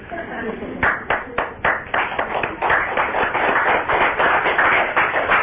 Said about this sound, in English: So I think you should give yourselves all a round of applause.